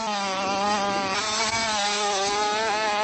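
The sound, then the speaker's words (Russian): High-pitched engine whine from small 65 cc motocross bikes ridden by young racers aged 9 to 13 on a practice run before the start, steady and loud throughout, rising and falling slightly in pitch as the riders work the throttle on the track. No voices. “Это тренировочный заезд перед стартом самых юных мотогонщиков.”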